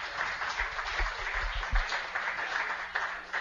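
Steady audience applause for a college student athlete from Chattanooga, Tennessee, and Baylor High School, a dense wash of many hands clapping at an even level for a few seconds, with a low rumble and some faint thumps underneath.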